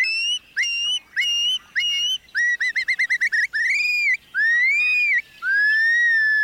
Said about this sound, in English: When they are disturbed, their loud flight calls sound the alarm that a potential predator is near.